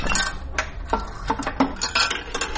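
A coin is dropped in from the top of an old coin-operated public telephone, the kind once installed along roadsides, making a series of bright metallic clinks and rattles, several quick taps spread over a couple of seconds, with no talking.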